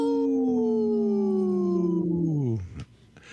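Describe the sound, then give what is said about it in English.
On Native Roots Radio, a host with a cold after COVID imitates a wolf howl: one long, sustained tone that slowly slides downward in pitch for about two and a half seconds, then drops off abruptly, followed by brief faint noise. “We have my howl's a little weak here with my cold after COVID here.”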